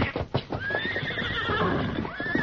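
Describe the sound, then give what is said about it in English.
Horses neigh and whinny in sharp, high rising and falling cries, scared by the smell of an approaching fire, with a jumble of hooves and restless movement underneath, loud and agitated with no talking. “Horses are scared.”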